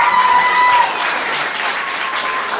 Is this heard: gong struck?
no